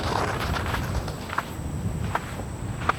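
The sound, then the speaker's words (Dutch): Footsteps walk across sand at an unhurried pace, each step a soft, gritty crunch, with a steady outdoor hiss behind them and no voices. “Ondertussen lopen wij verder.”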